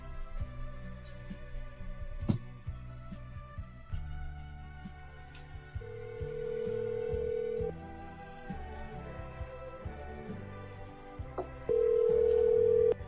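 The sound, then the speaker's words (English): An outgoing phone call rings twice, each steady electronic ringback burst lasting a couple of seconds, with a pause between them. Music plays underneath. “Can you hear the ringing?”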